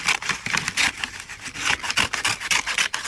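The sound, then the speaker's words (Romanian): Scissors snipping through gray wrapping paper with white polka dots, trimming it to size to wrap a gift, in a quick, steady series of crisp, hissy rasps, roughly three per second, with no talking over them. “Ajustez cu o foarfecă, o să auziți un pic... Așa, un hârșit de foarfecă.”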